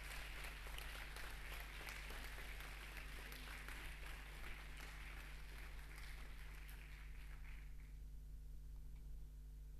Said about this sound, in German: Und wir starten mit den Präsentationen mit der ersten Gruppe, die heißt Instant Mail. Ich bitte euch auf die Bühne. Einen großen Applaus.